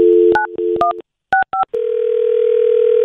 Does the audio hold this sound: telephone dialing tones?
yes